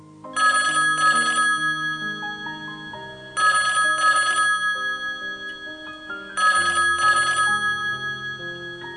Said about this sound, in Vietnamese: Khoảng 7 giờ sáng, chuông điện thoại nhà tôi reo.